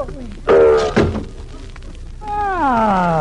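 Folding table legs collapse in two heavy wooden thunks about half a second apart, followed by a drawn-out voice sliding downward in pitch.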